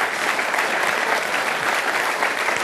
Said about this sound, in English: Well, let's continue to give a big round of applause to our panel for sharing their thoughts with us tonight.